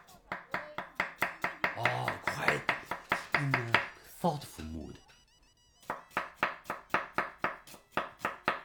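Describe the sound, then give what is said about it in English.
Steady, rapid knife chops on a cutting board as people chop vegetables for cooking in the evening, a rhythmic run of sharp taps, pausing briefly while a voice speaks before the chopping resumes at the same brisk pace. “You hear some people chopping.”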